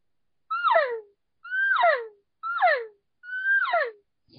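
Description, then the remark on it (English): Four evenly spaced elk cow calls made on a thick 0.4 latex diaphragm call built for bugling, each a short, twangy, nasal mew that slides downward in pitch. They are clear, with silence between them and no talking. “So if you try doing a cow call on this one, it's a lot harder because it's made to bugle.”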